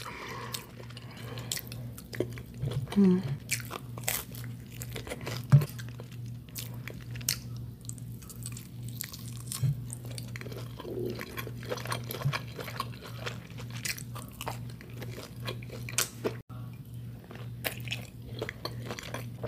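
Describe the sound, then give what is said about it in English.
Mouthy biting and chewing of a sausage bagel with cream cheese, with a steady stream of soft wet clicks and squishes over a low constant hum, and no one talking. “Sausage, bagels, and cream cheese.”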